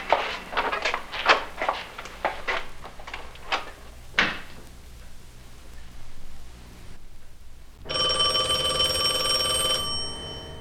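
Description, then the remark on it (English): A quick series of knocks and clatters fades into quiet, then a telephone begins ringing early in the morning, a steady, bright, buzzing ring that continues for a few seconds, loud. “hears the phone and rushes to the top of the stairs.”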